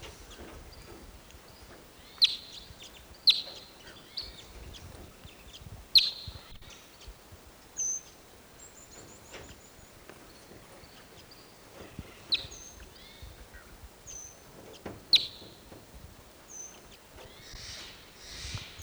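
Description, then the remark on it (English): Wild birds give short, sharp, high-pitched chirps at irregular intervals, about half a dozen standing out, with fainter thin whistles in between over a soft, steady background hiss. “Pointing at the wild birds.”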